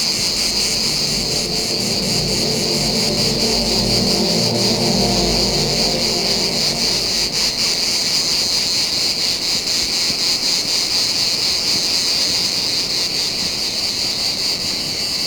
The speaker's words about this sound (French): Très beau à entendre, mais redoutable inquiétude. Que des cigales au bord de l'océan, enfin, du moins, dans cette partie régionale du Médoc, c'est la première fois que je les entends.